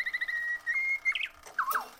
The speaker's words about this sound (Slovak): Až kým jedného dňa cisár nepovedal. Chcem počúvať slávika.